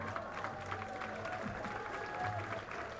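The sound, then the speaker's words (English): Steady, dense applause from a concert audience, a continuous wash of many hands clapping at an even level for about three seconds, with faint crowd murmur underneath. “Let's just hear some applause, everybody.”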